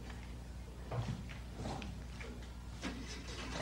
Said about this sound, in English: Go turn the key in at the ignition so we can see if the engine turn over.